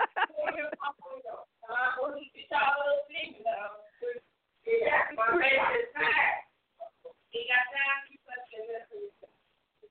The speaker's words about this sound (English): Well, I guess somebody's screaming in the background.